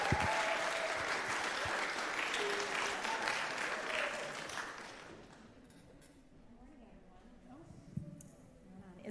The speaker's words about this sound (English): And so can you clap for them? I've talked a little bit too long. Clap for them.